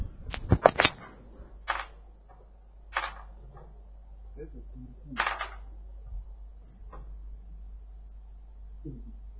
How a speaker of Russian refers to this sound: Так хорошо постучало, что сорвал дверь не с петель, конечно, но с засова.